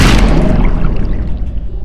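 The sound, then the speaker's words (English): A loud, steady churning of vibrating water with a deep rumbling, buzzing low end and a slight delay on the right side, continuous throughout with no voices, as if heavy water is surging. “It's like the water's got a little bit of delay on the right side.”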